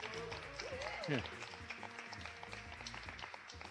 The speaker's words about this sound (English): we're the best kept secret at the Berkshire International Film Festival, but they are, I think, it's fair to say, the coolest looking audience that we've ever had. So let's make some noise, make some applause noise so we know that you're